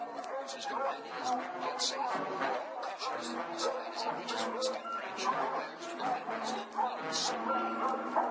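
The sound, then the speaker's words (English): A pack of dogs chasing people barks furiously and without pause, loud, with overlapping yelps and growls, and people's voices blend into the din. “And like a blanket, calm and falls the once enraged dogs, and they trot off, docile and tame as household pets, to the feet of their master.”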